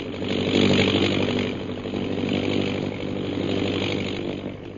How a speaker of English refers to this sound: We join them now as their plane circles over the hill.